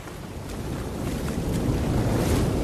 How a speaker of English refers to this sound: Chuck and Wilson set out from the island, the surf crashing over them, waiting for the right moment to raise the sail.